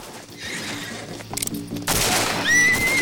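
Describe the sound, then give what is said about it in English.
A horse whinnies loudly in a high, wavering cry near the end, after a flurry of sharp gunshots and rough, noisy clatter during a gunfight, as a man climbs onto the horse. “Billy climbs onto his horse.”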